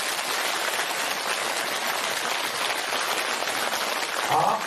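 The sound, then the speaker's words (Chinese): Steady audience applause at a Dharma assembly, thanking the many Dharma masters who came to support it: a dense, even patter of many hands clapping at a constant loud level, swelling slightly near the end. “尤其这么多法师啊也来啊来做打护持啊，打他们都是非常有高深的啊，他们都是学佛学很高深，都是高僧大德了、啊、所以呢我们也鼓鼓掌谢谢他们。”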